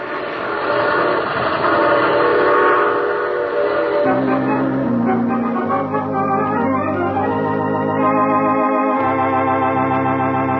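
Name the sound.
train arriving with horn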